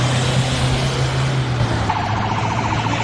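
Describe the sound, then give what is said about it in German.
Steady, loud road noise of dozens of cars driving past in a convoy to the high-security prison in Silivri, about 70 km west of Istanbul, Turkey, carrying detainees, with a low engine drone; partway through, a wavering siren joins in over the traffic rumble. “Dutzende Wagen fahren im Konvoi zum Hochsicherheitsgefängnis in Silivri, rund 70 Kilometer westlich von Istanbul.”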